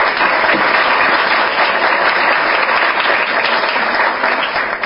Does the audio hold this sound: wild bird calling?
no